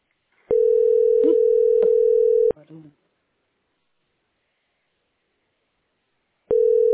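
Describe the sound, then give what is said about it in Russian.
A steady, low-pitched telephone dial tone hums loudly for about two seconds, cuts off, and after several seconds of silence starts again. A brief faint voice murmurs around the first tone. “Гудка.”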